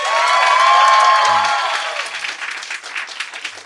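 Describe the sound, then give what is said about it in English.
An audience bursts into dense, loud applause with some cheering, voting 'no' in a debate on whether wokeness is killing comedy, sustained for about a second and a half before thinning into scattered, fading claps. “Okay, now clap if you think, no, wokeness is not killing comedy.”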